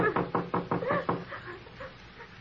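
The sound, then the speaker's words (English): A quick series of about six firm knocks on a wooden door, evenly spaced, followed by a quieter stretch with faint room noise. “Well, it won't hurt just to rap on the door.”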